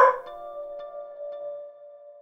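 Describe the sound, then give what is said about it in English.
A dog gives one sharp bark that trails off into a long, steady whining tone, heard alone with no talking. “And 1 for the best dog a guy could have. Right, Towns?”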